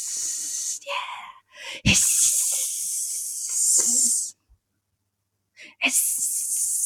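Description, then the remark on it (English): Loud, steady hissing from an air fryer comes in several bursts, with a long sustained stretch in the middle, a short break of silence, then the hiss returning, with brief breathy sounds between. “Why are you hissing? I don't know. Okay. I'm air frying.”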